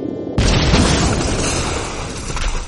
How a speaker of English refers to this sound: I would call that a successful kaboom.